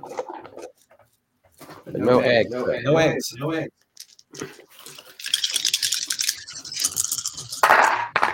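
household object, dice being rolled

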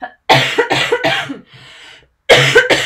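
human body sound, cough

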